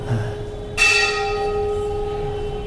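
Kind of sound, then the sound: signal or alarm, bell ringing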